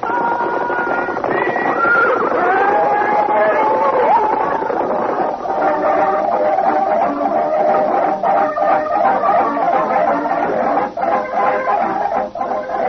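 A horse, the broken-down cayuse Mabel in the radio show Bobby Benson and the BRV Riders, lets out a loud, wavering whinny that rises and falls in pitch, followed by a steady stretch of busier, rougher sound with faint clucking mixed in.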